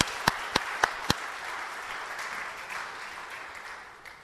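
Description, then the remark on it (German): Four sharp, evenly spaced claps ring out, then a steady wash of audience applause for the church's technician carries on at a moderate level and eases off slightly toward the end, with no talking. “Ein extra Applaus für Ulf.”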